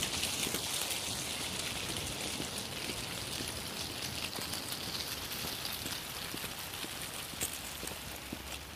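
On a cold day, wind blowing down side streets pushes dry leaves along a road, a little wind devil picking up handfuls and skittering them around; a steady hissing rush full of scattered little scratchy ticks and skitters that keeps going throughout, with no voices.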